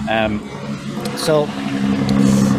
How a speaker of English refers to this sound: Apologies for the truck going by there.